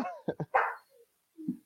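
The speaker's own dogs bark in a quick burst of three or four sharp, loud yaps, then go quiet briefly before one softer, lower bark closes it out.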